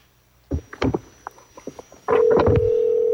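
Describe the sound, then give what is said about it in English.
A few soft clicks and taps, then a loud, steady electronic ringing tone over a phone line, starting abruptly and holding for about a second until the end. “Okay, that sounds at least like a real phone.”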